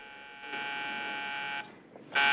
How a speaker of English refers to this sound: A light is buzzing on the wall outside a private room.